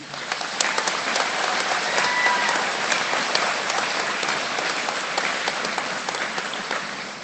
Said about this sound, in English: You made it, guys. Let's get some applause for our seniors.